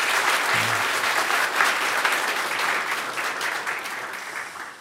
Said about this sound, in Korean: 우리 뜨겁게 찬양하신 우리 찬양대 감사 박수 한번 하십시오.